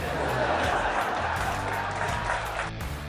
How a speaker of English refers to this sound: That got a smattering of applause.